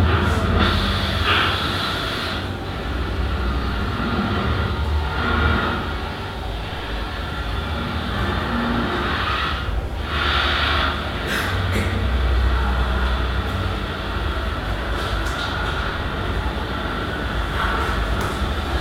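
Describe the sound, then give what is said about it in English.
A malfunctioning escalator at Hansa Platz, recorded in 1995, drones and rumbles continuously, with low grinding mechanical tones and recurring higher squeals and whines that swell and fade over about nineteen seconds, no voices present. “This hauntingly strange sound was produced by an escalator at Hansa Platz and recorded in 1995.”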